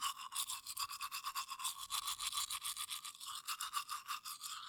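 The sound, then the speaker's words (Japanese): A toothbrush scrubs teeth in quick, steady back-and-forth strokes, a bright bristly swishing that pulses about five times a second without pause, with no voices. “こう、全部の歯をガーってやって、パーって感じで磨ければ楽なんだけどね。”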